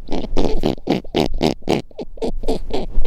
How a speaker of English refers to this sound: In case you're wondering what snowy owls sound like, I was. Here's an audio recording from Cornell University's Macaulay Library.